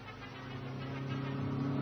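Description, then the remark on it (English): A car engine hums with a steady low drone that grows gradually louder over about two seconds as Colonel Gardner's car, in pursuit, passes the car carrying the professor and his captives. No one speaks. “Colonel Gardner sets out in pursuit, and on the way, his car passes them.”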